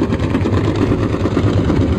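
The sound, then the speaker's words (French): A deep, steady engine drone of a merchant ship, heard underwater 3 km from the vessel, rumbles continuously and muffled, with a faint rhythmic throb pulsing through the low hum. “Nous sommes sous l'eau, à 3 km d'un navire marchand. Vous l'entendez ?”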